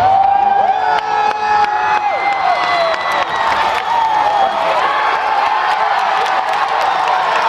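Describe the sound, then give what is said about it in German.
A large crowd in Grand Park, Chicago, roars and cheers continuously at 10 p.m. local time as Barack Obama is announced as the next US president, chanting his name. Scattered applause, high whoops and shrieks rise above a dense, loud wall of voices that never lets up. “Die Menschen jubeln und jauchzen, hüpfen und herzen.”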